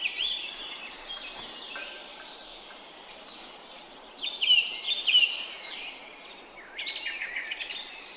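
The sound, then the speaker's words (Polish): A song thrush sings in a cemetery in bright, varied phrases of whistles and chirps, with short pauses between bursts, over a steady outdoor background hiss. “Wiele jest też drozdów śpiewaków. Jednego udało się nawet filmować podczas śpiewu.”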